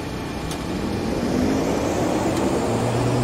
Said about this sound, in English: Throttle idle. Now performing engine startup.